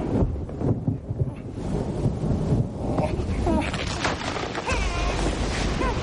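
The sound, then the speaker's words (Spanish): A thunderstorm with steady gusting wind roars at a constant loud level throughout, with a low rumbling undertone and a few brief high-pitched cries near the end. “Solo es una tormenta.”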